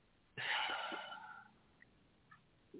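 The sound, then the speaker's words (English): A single loud, wheezy inhale during a guided deep-breathing exercise begins abruptly and trails off over about a second, followed by quiet with a few faint clicks and breath noises. “Deep breathing, deep breathing. Exhale. Deep breathing. Inhale, inhale.”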